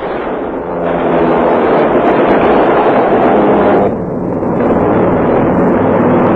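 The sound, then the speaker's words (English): Loud, steady roar of bomber aircraft engines mixed with rapid, continuous bursts of machine gun fire as gunners fire at enemy fighter planes on the way home from a raid on Hamburg, dense throughout, with a brief dip in intensity partway through. Muffled, old-recording quality; no voices. “Battling their way home, machine gunners blast enemy fighter planes from the sky.”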